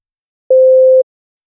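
A single steady telephone signal tone announcing an incoming call, one clear mid-pitched beep lasting about half a second, loud and alone against silence.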